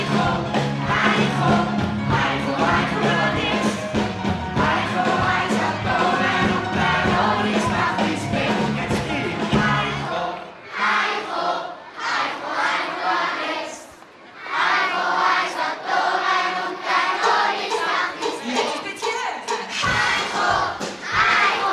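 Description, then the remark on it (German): A band plays its hit song while about 1,500 children and parents at a family afternoon of the Winterthur Musikfestwoche sing along loudly, the music dropping its bass midway before the whole audience keeps chanting and singing together in a dense, lively roar. “singt die Band ihren Mega-Hit zusammen mit dem Publikum. Also mit gut 1500 Kindern und Eltern.”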